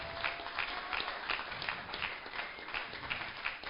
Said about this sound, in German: Wer, komm, lass uns mal richtig Gott einen fetten Applaus geben, oder?